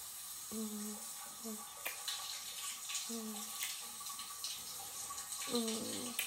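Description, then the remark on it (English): Shower water runs in a steady, even hiss for the whole stretch of a long, steamy shower, with a few soft, wordless voice sounds breaking through here and there. “Taking a little break like this, just you and me, enjoying ourselves like this, allowing ourselves to have a long, steamy shower together, a little escape from reality.”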